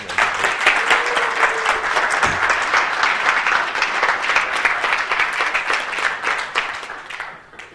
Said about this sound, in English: But so I just want to say thanks to you two particularly for everything that you've put in. So we can clap.